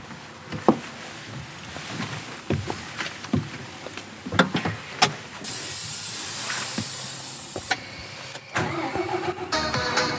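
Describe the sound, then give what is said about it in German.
A tractor engine cranks and starts up, preceded by clicks and clunks of someone climbing aboard, then a loud hissing burst and a steady rumbling idle, with no one speaking. The tractor is in Küritz, in the Prignitz area of northwestern Brandenburg, Germany. “ist dafür auf einen Traktor gestiegen. So, raufsteigen.”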